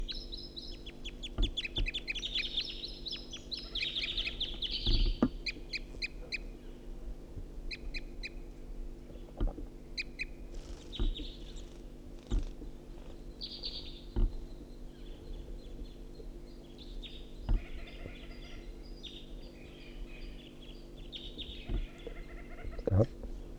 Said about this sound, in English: This is the second wild bird. Sorry, calling back to the first bird who's tooping.